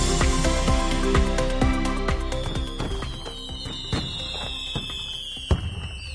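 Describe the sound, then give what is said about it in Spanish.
A rapid, dense barrage of fireworks and firecrackers bursting to celebrate the night of San Juan in Badajoz, sharp cracks piling on top of each other, with a whistling rocket tone rising over the steady crackle and one louder bang near the end. “Cohetes, fuegos artificiales para celebrar la noche más larga del año, la noche de San Juan, festivo hoy en Badajoz, que ya sabes, celebra estos días su feria y hoy tendrá su día grande.”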